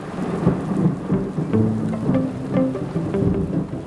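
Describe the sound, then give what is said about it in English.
Fierce, heavy rain pours down at night over a village in a dense, unbroken roar, with deep thunder rumbling underneath throughout. No one speaks. “Soon the sky opens and the rain is fierce, and I half wonder if God's chosen this night to drown out the wickedness of the village.”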